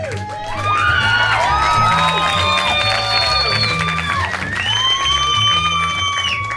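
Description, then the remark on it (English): An audience claps and cheers loudly for several seconds, a dense wash of applause topped by whoops and shouting voices that rise and fall without letting up. “I think you guys are laughing and clapping at me.”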